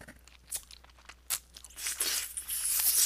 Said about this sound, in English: you shove two fingers into my mouth and, ooh, into my dripping cunt, too. I squelch and slurp for you.